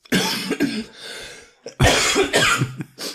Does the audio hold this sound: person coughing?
yes